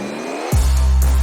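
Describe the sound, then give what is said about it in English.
An engine abruptly turns over and catches, settling into a loud, deep, steady rumble, with a brief throttle blip near the end; no voices are heard. “Start your engine.”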